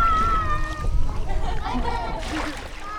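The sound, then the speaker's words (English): Water splashes and sloshes as a female seal enters the ocean and submerges her body, a busy, continuous wash of sound with faint voices of onlookers and children murmuring in the background. “Once she reaches the ocean, she submerges her body in the water.”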